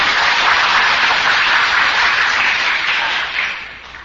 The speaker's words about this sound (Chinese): 就鼓掌的话就要么就用力嘛，不要鼓那个，看人看人家没有鼓掌，哎呦怎么又说起来了，连这个鼓掌都不肯布施，那当什么佛呢？